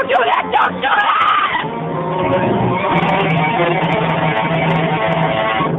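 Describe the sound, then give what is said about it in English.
A woman, Virginia Cunningham, screams in panic while being taken out of a staff room, fighting, loud, her cries rising and breaking over a noisy scuffle that carries on steadily for several seconds with other voices mixed in. “A moment later, we were taking Virginia Cunningham out of the staff room, fighting, screaming, terrified.”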